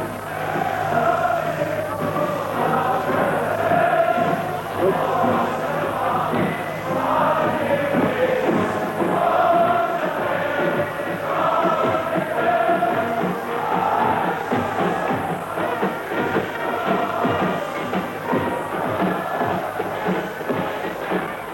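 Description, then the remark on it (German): A large crowd cheers and roars steadily for about twenty seconds for the new Reich Chancellor Adolf Hitler, a dense, unbroken wash of many voices with a faint low hum underneath, coming in from outside through the open window of the room where he is. “Sie können jetzt besonders gut hören, wie die Menge jubelt.”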